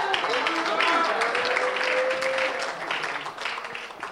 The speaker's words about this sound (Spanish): Aplauda que Él está aquí hoy.